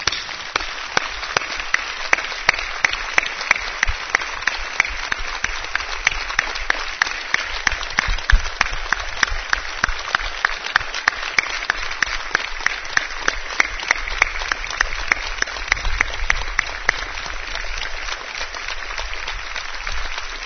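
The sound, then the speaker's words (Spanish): Sustained applause from a crowd as a warm tribute to a late colleague, given instead of a minute of silence, a dense wash of many hands clapping steadily for about twenty seconds, with some sharper individual claps standing out before it gradually thins toward the end. “Merece un caluroso y querido aplauso.”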